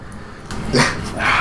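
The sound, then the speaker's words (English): A dog barks twice, a sharp yelp followed by a longer, strained bark, loud over a steady low background hum. “And then you hear the barking behind you.”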